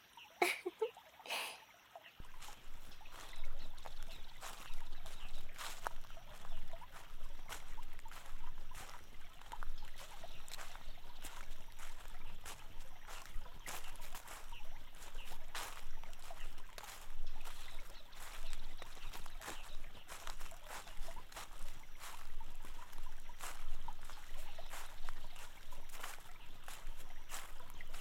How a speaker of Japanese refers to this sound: 川、綺麗ですよね。透き通っていて、お魚さんがいるときはすぐにわかるのですよ。